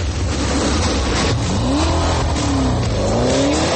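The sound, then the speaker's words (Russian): A car engine revs up loudly, its pitch sweeping upward in rising waves over a steady, dense roar, with no one speaking. “Но главное, автомобиль наполняется неудержимой мощью, которая пробирает до мурашек.”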